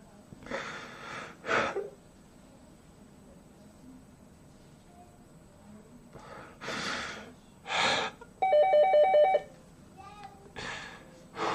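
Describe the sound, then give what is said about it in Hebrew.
A phone's electronic ringtone chimes in one short, bright melodic burst, set among loud breathy gasps and snorts. “יש לי טלפון, כאילו זה ערוץ הפייק ניוז של ישראל.”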